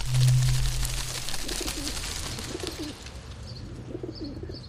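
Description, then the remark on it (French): Pigeons coo softly in repeated low, throaty phrases over a busy outdoor background hum, with a few faint higher chirps near the end. “Je repère tous les pigeons, j'ai un scan à oiseaux façon dans la ville.”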